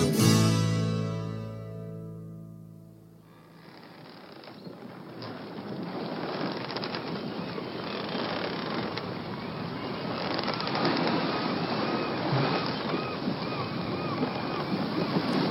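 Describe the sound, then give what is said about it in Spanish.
A ship crewed by pirates sails through ocean waves toward Tortuga island: steady, loud rushing water and wind that swell and surge. It comes in after a brief tonal sound fades out at the start, and no one speaks. “Este buque sigue navegando, acercándose a la isla Tortuga, tripulado por piratas que no reconocen autoridad en el mar ni en la tierra.”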